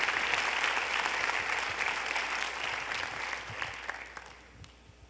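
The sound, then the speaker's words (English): An audience claps for a miracle from God in a dense, steady burst of applause that stays loud for a few seconds, then thins and fades toward the end. “Now you can clap, because that is a miracle from God.”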